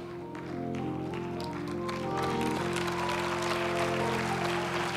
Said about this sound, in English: Some of you clapping in faith, but just go ahead. You don't know.